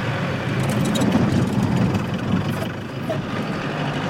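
old truck engine running

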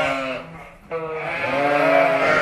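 sheep bleating

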